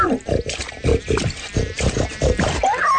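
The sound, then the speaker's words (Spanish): A pig, Don Gervasio, grunts and snorts repeatedly in quick, uneven bursts, fairly loud, with wet snuffling between the grunts. “Más tarde pasó por ahí don Gervasio rebotando de las aguas puercas, el cerdo más importante del lugar, ¿eh?”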